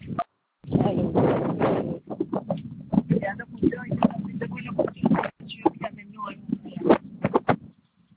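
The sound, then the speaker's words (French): Strong wind buffets a telephone line, producing loud, rumbling low-pitched roars and crackling gusts in uneven bursts, with muffled talk breaking through the noise. “Alors, excusez-moi, madame, je vous entends pas très bien, il y a beaucoup de vent.”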